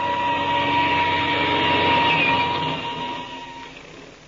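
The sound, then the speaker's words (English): An airplane engine is started for takeoff and drones loudly with a steady, buzzing roar and a whining tone, then gradually fades as the plane pulls away. No voices are heard. “I'll start the engine. We'll take off.”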